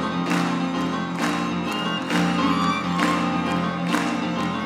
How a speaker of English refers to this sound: Are you ready to sing? Clap your hands, all right?